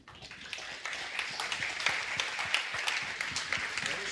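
An audience applauds the team lead after his tech presentation, in a steady, dense patter of many hands clapping, moderately loud and sustained throughout without a break.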